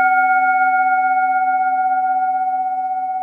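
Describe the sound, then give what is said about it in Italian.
A struck gong rings out on its own, a loud sustained metallic tone with several steady overtones that shimmer and pulse slightly as it slowly fades over a few seconds. “Ma non divaghiamo troppo ed entriamo subito nel vivo della puntata facendo suonare il gong degli spoiler.”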